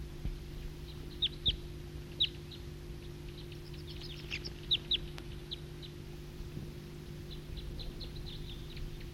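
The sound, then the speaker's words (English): A flock of wild birds calls in scattered bursts of short, high-pitched chirps, busiest in the middle, over a steady low hum; no one speaks. “It's a recording, flock of wild birds.”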